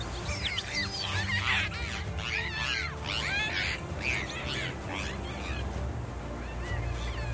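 A dolphin vocalizes in a rapid stream of squeaky whistles and chirps that sweep up and down in pitch, fairly loud, over a steady low rumble with no talking.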